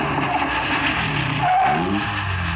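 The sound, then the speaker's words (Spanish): A car engine rumbles loudly, then a brief brake squeal and shifting engine tone as Calimán's car slows to a stop a careful distance from an Arab-style café, on busy, hot streets near the docks at sunset, with no voices. “Calimán detiene el auto a prudente distancia de un café de estilo árabe que se ve en la acera opuesta.”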